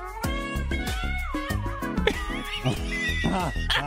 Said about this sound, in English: Wow, cat's really getting to it. I see what happened now. The neighbor's cat is yelling at his cat through a screen.